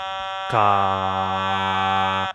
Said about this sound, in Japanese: その前に、おたまトーンを使った、カエルの合唱っていうのが練習シートで入ってたので披露したいなと思います。